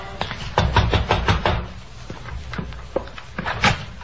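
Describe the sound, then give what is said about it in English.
A series of sharp, loud knocks on the wooden back door of a single-family frame house on Oxford Street, coming in uneven bursts with short pauses between them, with no voices. “A light showed in the rear window, so I walked around back and knocked on the door.”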